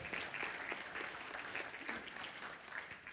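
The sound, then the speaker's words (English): A church audience applauds steadily at the announcement that 14 new families will be introduced to the church in two weeks, many overlapping hand claps forming a dense, even patter that holds at a moderate level for the whole stretch without a pause. “In fact, here's something else you can get excited about and clap.”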